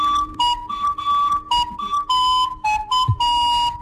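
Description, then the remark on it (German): A recorder plays a simple melody of about a dozen short, steady notes, clear and fairly high-pitched, with brief gaps between them and no voices. “Am New Yorker John F. Kennedy Flughafen hat nämlich genauso eine harmlose Blockflöte jetzt für Alarm bei den Sicherheitsbeamten gesorgt.”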